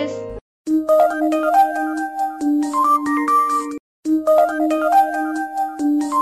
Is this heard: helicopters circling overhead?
no